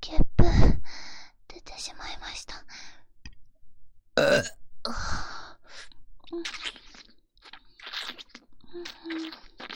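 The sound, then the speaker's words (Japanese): Two loud, close-up burps made right by the listener's ear, one near the start and a longer one in the middle, with soft whispering and breathy sounds filling the gaps between them. “ゲップで興奮しちゃったんですか？もっとやってほしいですか？では挑戦してみます。”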